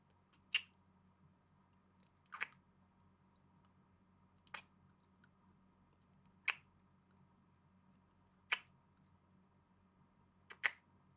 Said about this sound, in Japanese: それじゃあお互いシャワー浴びたことだし、始めちゃいましょうか。まずはキスから。